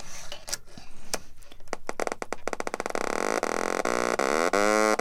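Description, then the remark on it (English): A few sharp clicks and snaps as a blue power bit is snapped into an oscillator and a speaker, then a loud, buzzy electronic oscillator tone rich in harmonics plays through the speaker, its pitch sliding and wobbling as the oscillator is tuned, with no talking. “So what I have is a power bit, which is blue, and I'm going to snap it into an oscillator, which is generating the sound wave, and a speaker.”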